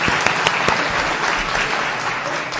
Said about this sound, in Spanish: y con todo el equipo de trabajadores, socios, amigos de Iberdoex Extremadura, que les voy a pedir que deis un aplauso para que los extremeños escuchen que estáis ahí. Gracias.